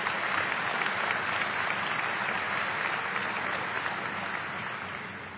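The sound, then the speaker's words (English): Sustained applause from a large group, a dense, steady wash of many hands clapping at once, holding loud throughout and easing slightly at the end, with no voices standing out. “We clap, but do we believe?”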